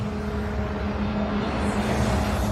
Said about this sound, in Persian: ماشین پشت سرمون. آره، ماشین پلیسه که عقبمون بود دیگه نیست.